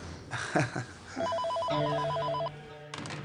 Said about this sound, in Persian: من تلفن جواب بدم.